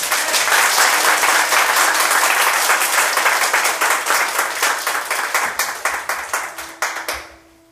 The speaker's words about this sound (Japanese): 拍手だったね今。